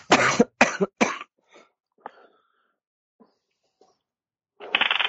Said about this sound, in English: Oh, sorry, still getting over the tail end of this cough.